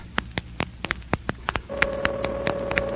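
A rapid series of sharp clicks as a man dials a telephone gives way to a steady, buzzing ring tone heard through the line to police headquarters, continuing unanswered with faint tapping noises underneath.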